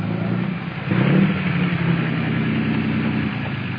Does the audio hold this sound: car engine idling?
yes